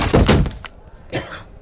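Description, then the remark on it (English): A wooden chair gives way with a loud cracking crash and a heavy thunk, followed after a short pause by a second, softer knock as pieces settle. No one speaks. “My chair broke.”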